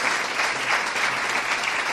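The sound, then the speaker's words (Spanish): Sustained applause from an audience on a programme, honouring a couple who kept a biscuit factory in the province of Jaén running; a dense wash of many hands clapping at a steady, fairly loud level throughout, with no speech over it. “Muchas gracias y yo les pediría para ellos un fuerte aplauso.”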